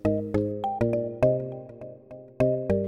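A doorbell rings with a melodic chime, about eight bright, ringing tones struck in an uneven pattern, each fading quickly. No one speaks.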